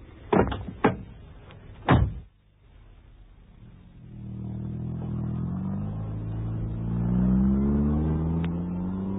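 A few sharp thuds of a car door shutting as a woman gets into a car, then a pause before an engine turns over and settles into a steady rumble that rises slightly as it revs.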